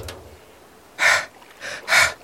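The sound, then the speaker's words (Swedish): A voice imitates heavy panting heard from down on the ground: three loud, breathy huffs in an uneven rhythm, airy, with a faint breath at the start and no words spoken. “Det hördes bara ett flåsande nerifrån marken.”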